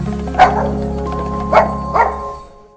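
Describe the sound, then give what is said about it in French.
A man imitates a small dog's panting, the breathing technique taught by midwives for childbirth, making three short, breathy, yippy bursts over a steady low hum in the background. “Ah oui, la technique du petit chien.”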